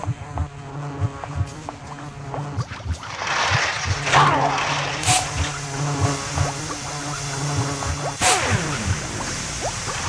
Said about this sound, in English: Insect spray.